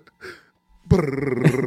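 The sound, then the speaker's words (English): A short breathy intake, then a person lets out a loud, sustained, wavering vocal tone, imitating a cartoon wolf's howl. “Why do you sound like a cartoon wolf?”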